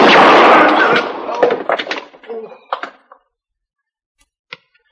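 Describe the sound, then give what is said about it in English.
A loud gunshot blasts out and decays, followed by a metallic clatter as the bullet strikes the gun a man is holding, leaving him unhurt, then quiet broken by one sharp click near the end. “You're not hurt. I hit the gun.”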